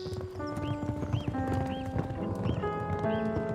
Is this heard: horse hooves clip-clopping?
yes